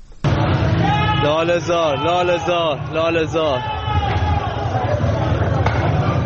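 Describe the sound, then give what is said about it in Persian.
A crowd of protesters shouts and chants together in the street in Lalehzar, voices rising in rhythmic waves over dense, continuous crowd noise and scattered thumps, loud throughout. “صدای مردم لاله‌زار هم میتونیم الان بشنویم.”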